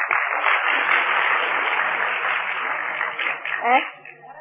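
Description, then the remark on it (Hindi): A crowd breaks into steady, dense applause that holds at a fairly loud, even level for a few seconds, then thins out as a voice briefly cuts in near the end. “और तालियां भी नहीं बजाई।”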